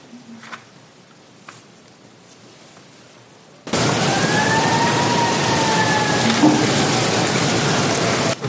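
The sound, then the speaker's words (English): After a few quiet seconds, a loud rush of noise cuts in abruptly, and an emergency siren's rising and falling wail sounds through it, sustained to the end. “I'm just pointing out the siren.”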